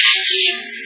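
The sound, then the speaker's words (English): A drop of water lands on a car body that has been exposed to the sun's heat for a few hours, giving a short, steady high hiss threaded with faint wavering tones that gradually softens over under a second. “that's the sound of a drop of water on the body of your car after it's been exposed to the sun's heat for a few hours.”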